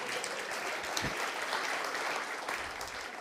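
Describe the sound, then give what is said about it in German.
An audience applauds a magician, clapping steadily in a dense, continuous wash of applause, loud and even throughout with no voices on top, just the crackle of many hands. “Applaus für den Zauberer, der unser Hirn austrickst.”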